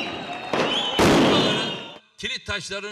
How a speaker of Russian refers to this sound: Напомним, стычки продолжались в Стамбуле всю ночь. Протестующие поджигали автомобильные шины и запускали фейерверки.